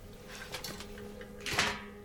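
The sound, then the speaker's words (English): Curtains are pulled shut along a rail by a nurse in a surgeon's office: a couple of soft swishing slides, then one louder, fuller sweep near the end, with a low steady room hum and no voices. “In the surgeon's office, a nurse is closing the curtains to lower the brightness of the room”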